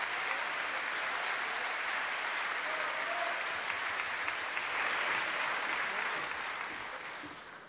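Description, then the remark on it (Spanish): A crowd at the 20th anniversary Premios Gardel music awards ceremony applauds steadily to welcome a presenter, a dense wash of clapping that holds at an even loudness for several seconds before gradually tapering off at the end. “Gabriela Radice, bienvenida, fuerte el aplauso.”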